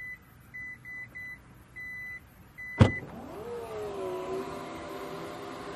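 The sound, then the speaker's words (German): A Taurus SUV's power tailgate opening on its own after it detects someone standing behind it with the key in a pocket: a series of short, steady warning beeps, a sharp latch click, then a continuous electric motor whir whose pitch dips and rises as the hatch lifts. “Ich behalte den Schlüssel in der Tasche hinter die Heckklappe und du hörst es.”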